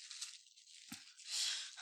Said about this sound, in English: See? Plastic bag.